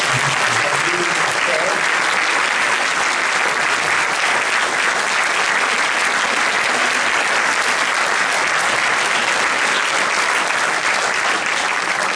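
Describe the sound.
Sustained audience applause, a dense, steady wash of clapping hands that stays loud and even for about twelve seconds, with faint voices murmuring underneath.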